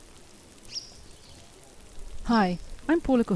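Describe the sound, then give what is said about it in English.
Millions of maggots chewing through the raw meat of a dead cow lying in a river at the edge of Nairobi National Park make a soft, continuous wet crackling and sizzling hiss, fairly faint, before a person begins speaking over it near the end. “That's the sound of millions and millions of maggots chewing their way through a juicy piece of steak out here in the Nairobi National Park.”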